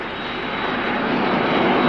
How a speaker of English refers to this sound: You open your eyes and look up, but there is nothing in the clear sky. Then you will know that over you has passed the ghost plane.